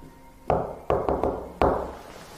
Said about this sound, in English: Did you hear that? Huh? So, knock, knock. Yeah, you heard the knock knock.